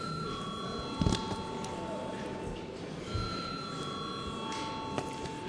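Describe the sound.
The chamber bell of the Saeima, the Latvian parliament, rings steadily before a vote on a bill amending the Criminal Procedure Law in first reading, a sustained high electric tone that holds throughout, with a low murmur of voices and a few soft thumps underneath.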